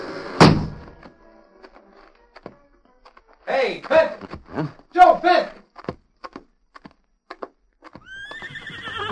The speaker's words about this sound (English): The guard will take you to the front gates. A short time later, the big gates closed behind Joe Fenton.